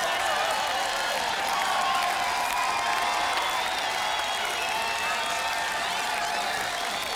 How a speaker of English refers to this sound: A major round of applause for the best band in the Metroplex. See you on the West Coast real soon, guys.